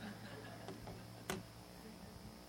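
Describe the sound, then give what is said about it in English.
A clock goes off at 10:07 with one sharp, bright click that stands out over a quiet background hum, preceded by a couple of faint ticks. No one speaks. “Excuse me, there went my clock.”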